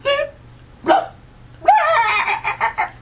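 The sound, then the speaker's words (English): A person vocally imitates a bleep with short, squawky yelps that come out sounding like clucking chickens, several quick bursts followed by a longer run of choppy warbling calls, fairly loud. “Actually, those are all stupid. Those sound like chickens.”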